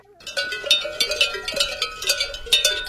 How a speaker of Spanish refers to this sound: Pero si es la campanita de uno de mis corderos. Se dijo el pastor al oírlo. Y parece como si sonara muy lejos.